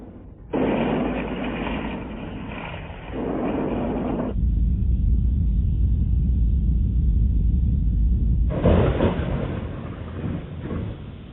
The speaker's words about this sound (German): Vulkane, Erdbeben und Donner.